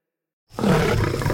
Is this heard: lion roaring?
yes